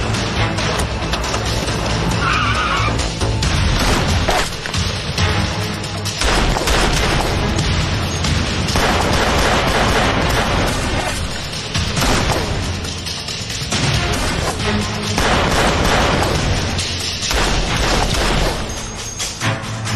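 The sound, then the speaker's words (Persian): Heavy, sustained gunfire crackles and booms in rapid bursts, loud, with deep thuds layered under the shots and no clear voices; shots are being fired at address 15715. “من فوراً در آدرس 15715 به نیروی پشتیبانی نیاز دارم. سری شلیک میاد.”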